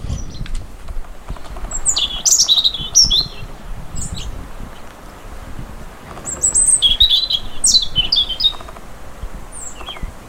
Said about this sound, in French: C'est bien le rouge-gorge.